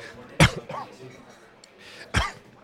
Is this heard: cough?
yes